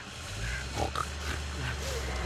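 A pig grunts and snorts in a few short, rough bursts over a steady low rumble, moderately loud, with no one talking.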